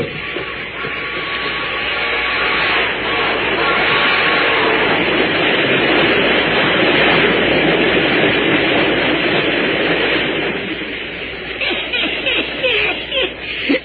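A train approaches a car on the track, getting louder, with a dense, roaring wash of wheel and engine noise that swells quickly and holds loud, with faint rhythmic clatter near the end.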